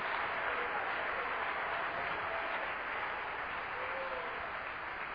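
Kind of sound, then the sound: crowd, audience clapping hands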